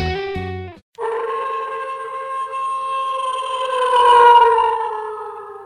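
A wolf howl rises out of a brief buzzy burst and holds one long, wavering note for several seconds, swelling slightly louder toward the end, with a harsh, electronic edge.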